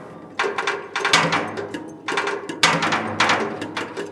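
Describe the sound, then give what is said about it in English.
Loud metallic banging in a rough repeating beat, with several hard strikes ringing out and overlapping clangs as computer-controlled robotic hammers, four on each dumpster, pound two blue metal dumpsters to provide a backing beat. “There's an array of 4 robotic hammers on each dumpster. They're hooked up to a computer to provide a backing beat.”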